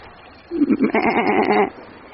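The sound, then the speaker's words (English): A goat bleats once in a long, wavering, quavering call lasting about a second, loud, with no talk around it. “It's a goat.”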